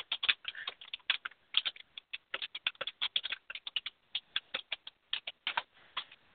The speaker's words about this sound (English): So I'm typing a message to DC now.